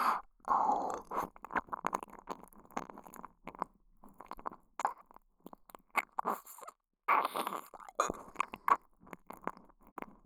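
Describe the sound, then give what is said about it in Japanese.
Wet tongue licking right against and deep inside the ear, as if cleaning it, a steady run of slurpy, smacking bursts with brief pauses between them and no talking. “耳の奥まで私の舌で、綺麗にお掃除してあげるからね。”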